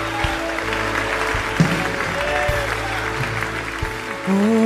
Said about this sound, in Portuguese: Receba na tua vida. Comece a aplaudir o Senhor.